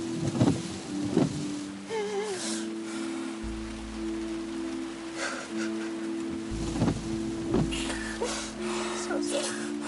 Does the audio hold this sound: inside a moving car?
yes